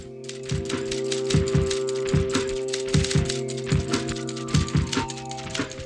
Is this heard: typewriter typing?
yes